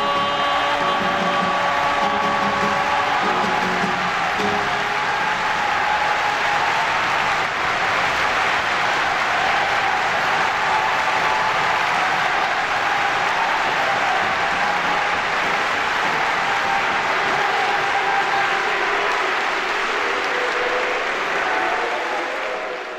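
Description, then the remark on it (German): Sustained, dense applause from a large, very lively audience on a live concert recording, clapping while the singer performs; loud and continuous for the whole stretch with faint tonal traces early on, then tapering slightly at the end. “eine Live-Aufnahme mit einem sehr lebhaften Publikum, das ständig dazwischen geklatscht hat, während er am Singen war.”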